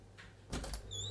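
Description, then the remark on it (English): A quick rustling shake, then a faint, high, bright jingle of a small collar bell ringing out briefly at the end, over a low steady hum. “I can hear a cat shaking its head and the bell jingling.”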